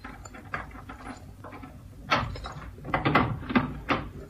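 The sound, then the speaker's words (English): A door being unlocked with skeleton keys: close-up metallic scratching and rattling at the lock, followed by a run of sharper clicks and clunks as the mechanism gives, with no voices. “Listen, don't break down the door. Have you got your skeleton keys? You bet. Well, use them.”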